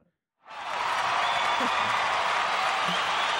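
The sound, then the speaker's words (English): After a brief silence, applause suddenly starts and holds steady at full volume, a dense, continuous wash of clapping from a group of people that fills the rest of the moment. “My shitty wordplay was as opposed to a joke being met with laughter, it's met with rapturous applause.”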